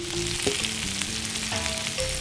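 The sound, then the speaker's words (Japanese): Steady, dense sizzling of roughly chopped daikon radish stir-frying in chicken fat in a pan, with the chicken added back in, a few clacks and scrapes from stirring and faint tonal squeaks from the utensil against the pan. No one talks. “大根がツヤツヤになったら、先ほど取り出した鶏肉をもう一度入れます。”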